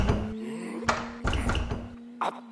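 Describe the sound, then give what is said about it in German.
The handle of a locked door in a back courtyard is jiggled and rattled against the door in a few short, clunky bursts, with a faint steady hum underneath and no voices. “Ah, da ist ja noch eine Türe. Die muss ins Treppenhaus führen.”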